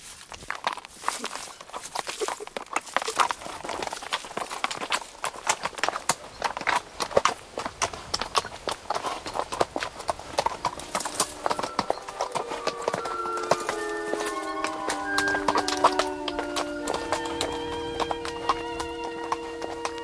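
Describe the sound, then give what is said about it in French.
Horse hooves clip-clop in a steady walking rhythm, a continuous stream of sharp knocks. About halfway through, sustained tonal sounds join in over the hoofbeats. “À la sortie du bois, Angelo installa la jeune femme et la petite fille sur le cheval et ils commencèrent à parcourir les collines pierreuses”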